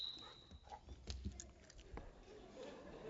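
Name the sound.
dog whimpering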